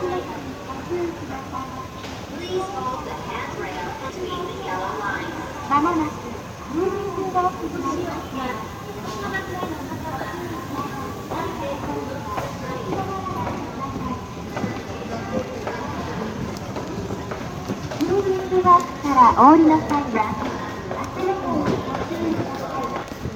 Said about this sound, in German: Was allerdings gut zu hören ist, sind die Geräusche aus dem Bahnhof in Kyoto. Und genau die hören wir uns jetzt einmal an.